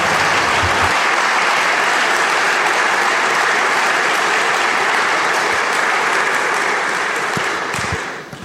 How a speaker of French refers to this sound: donc c'est très bien qu'elle soit ici parmi nous pouvons l'applaudir.